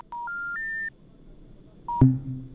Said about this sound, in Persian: تماس تلفنی شنونده ما قطع شد.